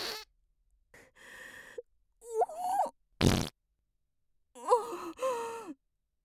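A run of several fart sounds from someone in the middle of constipation, some drawn-out and wobbly, one short harsh burst in the middle, mixed with breathy sighing noises, with no talking.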